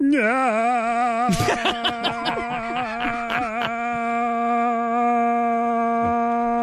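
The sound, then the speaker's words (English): A voice holds one long, unbroken nasal note in imitation of a stuck car horn, wavering briefly at the start and then staying flat, with a burst of sharp clicks partway through. “Stuck car horn.”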